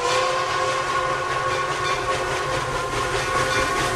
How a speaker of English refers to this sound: Later, a steam engine pulling one car chugs to a stop.